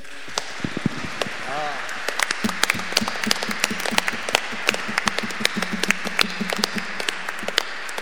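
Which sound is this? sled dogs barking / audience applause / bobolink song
audience applause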